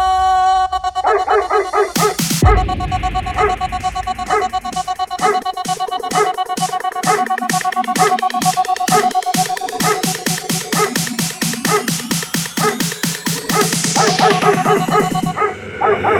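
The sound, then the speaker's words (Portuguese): Dog barks punch through a loud, busy electronic beat, repeating in quick rhythmic bursts that lock into the music's tempo from start to finish. “Ui, cachorro. Late, que eu tô passando.”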